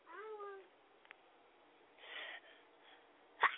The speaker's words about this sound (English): Are you going to sneeze to the public? Say, God bless you. Bless you.